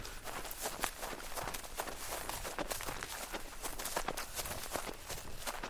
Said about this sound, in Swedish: Helt plötsligt hörde vi snabba fotsteg.